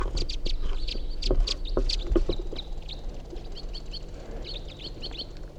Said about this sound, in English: They're white-winged crossbills. One of them's a male white-wing.